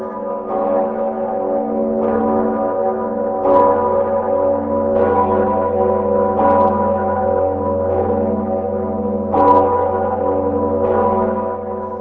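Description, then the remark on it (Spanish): The historic bells of St. Vitus Cathedral in Prague, Czech Republic, ring out continuously in a Sunday ritual, heavy overlapping strikes every couple of seconds over a deep sustained hum, loud and resonant with no voices. “Todos los domingos acuden a la Catedral de San Vito para cumplir el antiquísimo ritual, haciendo repicar sus históricas campanas en la antigua sede de los Reyes Checos.”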